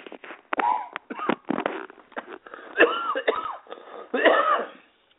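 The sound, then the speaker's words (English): A hoarse coughing fit: a rapid string of harsh coughs and throat-clearing bursts over about five seconds, loud and uneven, with no talking. “Excuse me for the cause, for the pause with that coughing stint.”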